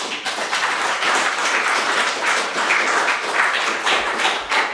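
A crowd applauds steadily, a dense wash of many hands clapping at once that holds at an even, fairly loud level throughout, with no voices heard over it.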